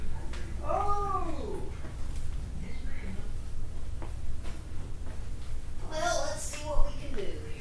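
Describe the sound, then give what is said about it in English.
A cat meows twice inside a house, a drawn-out wavering cry near the start and another fuller meow about five seconds later, both over a steady low background hum. “I heard it squeaking. Here, cat.”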